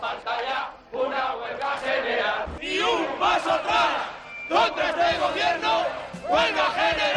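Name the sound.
protest crowd chanting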